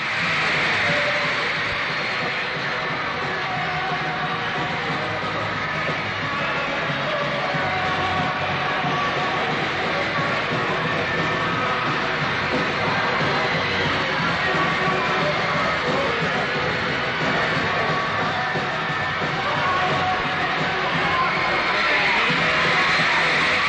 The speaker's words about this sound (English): After the screams, the crying, the show of love and excitement, the audience filed out,